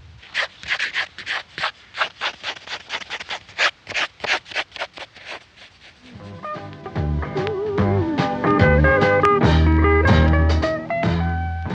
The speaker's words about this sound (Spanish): Entonces, tomó su lápiz y decidió volverlo a dibujar para preguntarle por qué se había ido. Tomó lápiz y papel y comenzó a...